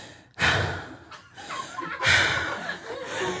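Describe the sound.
A person imitates a man's heavy breathing during a make-out session: two long, loud, airy breaths with a brief pause between, with no talking.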